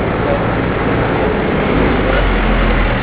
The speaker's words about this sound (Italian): Aspetta che passa un... Sì, sì. Camion, speriamo che non sia quello che puzza. Ieri è passato uno da morire.